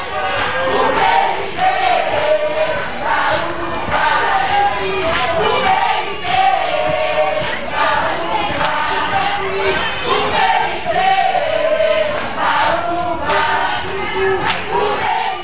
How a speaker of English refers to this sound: I remember panning my camera around, and I just see this crowd of people singing and dancing in the center of the tent. People are jumping up and down.